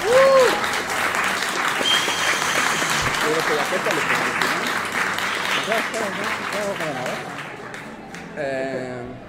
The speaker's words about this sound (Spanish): Somos los Bully Magnets y nos vemos para la próxima. ¡Aplausos y nos vemos!